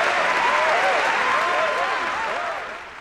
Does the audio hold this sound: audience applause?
yes